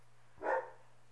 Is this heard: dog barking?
yes